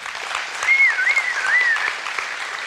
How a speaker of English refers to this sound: So you know what you would do? Because they might be in this room right now. Would you clap and cheer just in case they're in here?